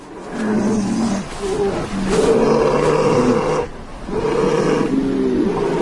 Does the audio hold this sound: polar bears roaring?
yes